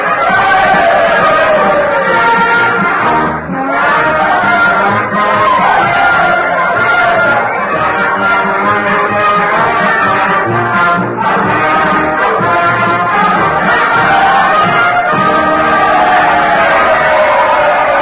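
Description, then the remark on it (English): A loud, dense crowd roars and cheers continuously at Mr. Lincoln's request to the Union Band, a thick wall of overlapping shouting voices that barely dips for the whole stretch, with a brief lull just before the midpoint. “Well, I hope you can hear me above all this din.”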